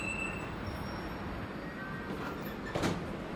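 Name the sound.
subway train running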